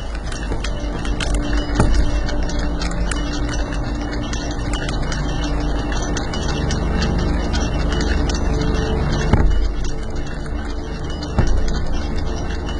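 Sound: ticking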